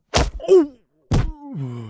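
A sharp whack, then a short pained groan, followed a moment later by a heavier thud and a long, sinking moan as someone jumps back in fright, hits his head and falls to the floor.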